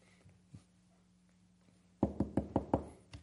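After a quiet stretch, five quick, firm knocks on a wooden door in an even rhythm, fairly loud, with no one speaking.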